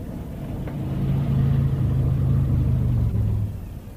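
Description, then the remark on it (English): A car engine rumbles low and steady, swelling in loudness around the first second and holding a droning tone before easing off near the end, with no talking. “We can't drive it like this. We'll have to. The wretched thing will start.”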